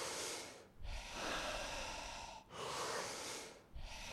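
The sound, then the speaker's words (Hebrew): Deep, forceful breaths in a steady rhythm during a breathing exercise, each a long airy rush broken by brief pauses, fairly loud with no talking. “עשר נשימות אחרונות.”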